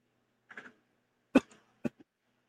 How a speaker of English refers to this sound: You got a little bit of cough too. Yeah, I always have the lingering cough.